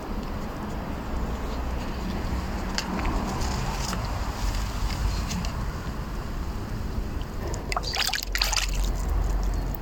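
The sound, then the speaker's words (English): Steady outdoor background in an urban setting, with a faint rumble of cars and a few faint bird chirps from garden trees, then near the end a crisp splash as a stick is flicked into a pond, followed by brief trickling and sloshing. “And at the end, I flick a stick in the pond, so you hear that too.”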